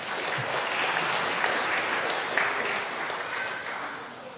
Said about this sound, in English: A round of applause.